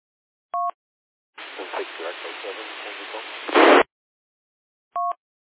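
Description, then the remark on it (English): A weak, band-limited amateur radio transmission from a portable radio: a garbled, muffled voice through crackly static ending in a loud burst of noise, framed by short two-tone beeps before and after. “Usually a stronger signal.”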